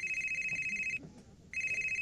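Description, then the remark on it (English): A telephone rings loudly, a bright trilling bell in two bursts separated by a brief pause, with faint low room noise underneath. “Aren't you going to answer it?”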